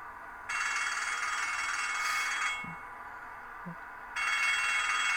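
A harsh electric bell rings continuously for about two seconds, stops briefly, then starts ringing again with the same loud, steady metallic clatter, with no one speaking.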